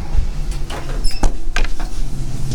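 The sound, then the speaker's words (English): A door opens with a couple of sharp clacks and a brief scraping rattle, set against a steady low rumble of background noise. “Opening the door, and here we go.”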